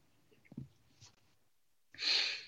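A short, forceful nose blow into a tissue by a person with a cold, a breathy honking rush of air lasting about half a second, after a few quiet soft rustles.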